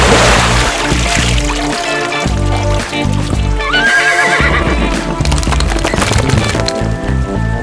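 A horse whinnies loudly over a steady clip-clop of hooves, busy, with a dense, full-bodied background running throughout.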